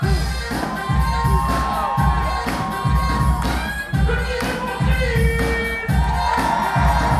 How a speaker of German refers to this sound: Egal, ob gerade Männer oder Frauen tanzen, die Halle im Kulturzentrum Saint-Quatre im Norden von Paris tobt.